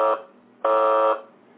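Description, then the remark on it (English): A harsh electronic alarm buzzer blares in repeating half-second bursts separated by short gaps, loud, with no voices around it. “but the alarms and the sirens and all the warning signals are there.”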